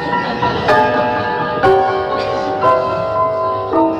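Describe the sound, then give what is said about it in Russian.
A clock chimes a slow melody, four bright bell-like notes struck about a second apart, each ringing on and overlapping the next, with no talking. “Часы играют мелодию.”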